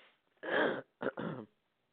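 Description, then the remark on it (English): Someone clears their throat in three rough, raspy bursts: one longer rasp, then a short catch followed by another gravelly rasp, with silence around them and no talking. “My goodness, I have a frog in my throat.”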